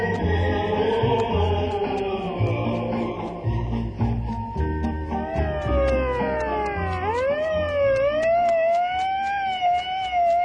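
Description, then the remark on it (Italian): A wailing ambulance siren rises and falls continuously, loud, sweeping up and down over a busy background of music or noise for the whole stretch. “Sì, sì, l'avrete riconosciuto, è l'ambulanza di Mafiopoli, l'ambulanza di Mafiopoli.”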